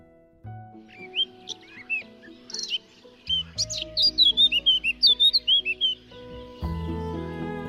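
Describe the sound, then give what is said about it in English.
A blackcap warbler sings from scrub, a quick, bright run of scratchy trills, chirps and warbling phrases, clear, over a soft sustained musical backdrop that swells near the end. “You can also listen out for the black-capped scratchy trills from the scrub. It's sometimes called the northern nightingale for its sweet song.”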